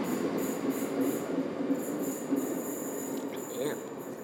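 A train rumbles steadily at Coatbridge Sunnyside Station, a broad low hum with faint high squeals near the end, with no talking over it.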